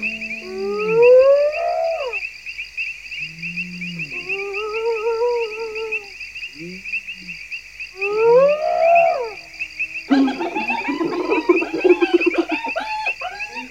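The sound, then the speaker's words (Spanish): Hyenas howl at night across the savanna along the Luangwa River: several long, rising whooping calls with pauses between them over a constant shrill insect drone, ending in a burst of excited cackling and chattering. “Las hienas se les unen desde todos los puntos de la sabana, lanzando fuertes y prolongados gritos.”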